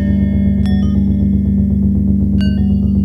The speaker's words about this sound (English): And then there's also these low bells.